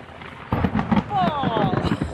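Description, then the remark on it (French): Thunder rumbles through a stormy sky over the small airstrip of Sarayaku on the Amazon plateau, with wind and rain coming and a plane leaving, a low, rolling roar swelling in after a brief quiet and holding steady, with faint high gliding whistles drifting over it. “Bienvenue à Sarayaku, on est arrivé tout juste, il y a le tonnerre qui sonne, l'avion qui repart avant la pluie, mais voilà, vous êtes arrivé, on est sain et sauf à Sarayaku, bienvenue.”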